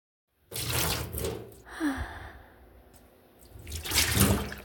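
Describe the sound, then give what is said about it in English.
Water sloshes and splashes in a bath in two louder bursts, with a softer, steady watery hiss between them. No voices are heard. “I'll go before the bath gets cold, okay?”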